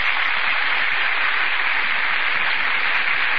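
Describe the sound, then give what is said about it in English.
A theater audience claps steadily throughout as Vivian Lee and Laurence Olivier enter from the wings: a dense, sustained wash of applause with no pauses, fairly loud but thin and band-limited, like an old broadcast recording, with no voices. “That burst of applause, ladies and gentlemen, is for Vivian Lee and Laurence Olivier, who have just entered from the wings.”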